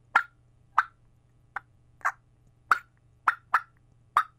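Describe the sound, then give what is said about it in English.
Eight sharp, clipped turkey alarm cuts blown on a diaphragm turkey call with a V-shaped cut, loud and staccato at an uneven pace, with a steady low hum underneath and no talking. “I walk through the woods getting alarm cuts.”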